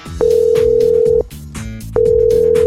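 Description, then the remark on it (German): A telephone ringback tone sounds after dialing zero, on a call from the radio station Radio Rot Oberwallis to a schoolteacher: two long, steady electronic beeps separated by a short pause, fairly loud over soft background music. “Noch schnell wählen. Null. Und jetzt müsste es leiten.”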